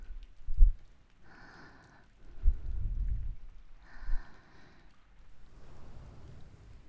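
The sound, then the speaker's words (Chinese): Steady rain hisses outside, broken by a few low, rumbling swells and soft thumps. No one speaks, and the downpour stays fairly quiet and even throughout. “虽然外面还在下雨，但现在在姐姐家里，不对，在我们的家里。”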